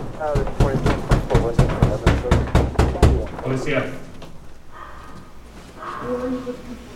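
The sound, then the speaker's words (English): ICE officers knock on an apartment door just after 6 a.m. in the Bronx: a rapid series of about a dozen loud, sharp knocks for a few seconds, then they stop, followed by faint, muffled voices talking. “the scene you're seeing is when they're knocking on a door”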